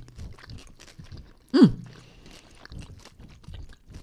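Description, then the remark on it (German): Close-up chewing of chocolate with crunchy licorice pearls: steady wet mastication and small crunches, with one louder, sharper bite partway through. No one speaks. “Ich steck das mal in den Mund, ne?”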